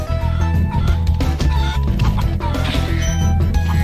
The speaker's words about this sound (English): Chickens.